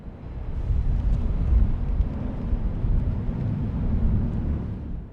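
A steady, heavy low-frequency rumble of a working wharf fills the scene, with dense machinery-like drone and faint higher clatter on top, holding at a constant loudness throughout with no voices.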